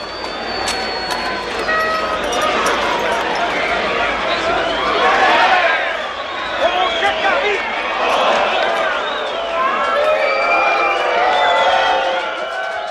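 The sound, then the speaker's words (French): A large crowd gathered in front of a door shouts and clamors in a continuous, dense roar, muffled as if heard from behind the door, with individual voices rising and falling throughout. “C'est con, hein, une foule.”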